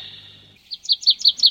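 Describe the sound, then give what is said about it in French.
A tit sings a quick run of about five bright, high, repeated notes, clear, preceded by a steady thin whistling tone with a faint low hum and no talking. “Et voici la mésange.”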